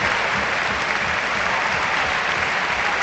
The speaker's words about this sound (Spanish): Sí, en los videomarcadores las fotos de Puerta y de Jarque y el aplauso unánime, como no podía ser de otra manera. Este es el minuto Antonio Puerta.